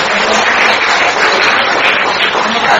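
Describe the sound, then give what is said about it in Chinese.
Loud, sustained applause from an audience, a dense wash of many hands clapping at a steady level with no pauses, running throughout without any voices standing out. “我告诉你，你们准备好鼓掌了，不会讲错的。”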